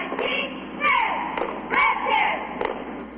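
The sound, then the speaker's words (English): A cheerleading squad shouts a chant in unison, voices rising in bursts, with sharp claps or stomps punctuating the rhythm. The sound is moderately loud. “It's a cheer squad.”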